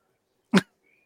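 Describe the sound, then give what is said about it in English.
A single short, sharp sneeze bursts out once, fairly loud, with quiet before and after it and no talking around it. “Gesundheit.”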